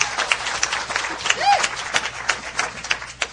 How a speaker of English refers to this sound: And since I wrote his sermon, I just feel even blessed as you clap for him. I didn't, but I wished I would have, because it was that great.